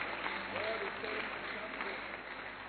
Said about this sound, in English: You see, if you are clapping for the Lord, clap for the Lord. If it is for reverence, forget about it.